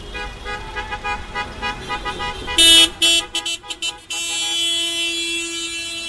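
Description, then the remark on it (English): Car horns honk as local mail carriers drive a caravan of cars decorated with balloons and signs around San Francisco, honking and cheering: a few short staccato toots, then one long sustained blare, with traffic rumbling underneath and a voice or two. “So local mail carriers got in their cars, decorated with balloons and signs that said Save the Postal Service, and they set off on a tour around San Francisco, honking and cheering, hoping to draw attention to the impending calamity for the mail.”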